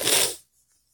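One quick, breathy sniffle into the microphone, a short hissing burst of air lasting under half a second before the sound cuts to near silence.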